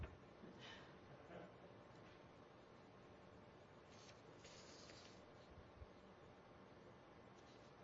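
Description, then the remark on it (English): Loose, unstapled paper pages rustle and shuffle in a few short, crinkly bursts, soft and quiet over a steady faint hiss, with no one talking. “The joys of having unstapled paper.”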